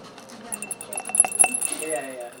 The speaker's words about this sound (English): And now everyone's gonna shake their plates. And they're gonna shake the beads around on the plate, and the beads are going to track bacteria all over the plate and coat the surface.